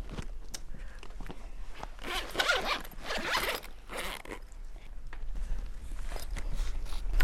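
A zipper on a pencil case is pulled back and forth several times, its raspy zips coming in short bursts with brief pauses and small rustles between them.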